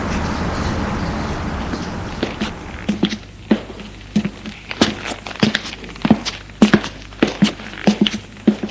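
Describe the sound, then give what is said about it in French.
Steady footsteps of a man walking outdoors, each step a sharp tap in an even rhythm, heard over a low rumble of traffic with no one talking. “Une fois dehors, il marche pendant un moment et retourne chez la jeune fille.”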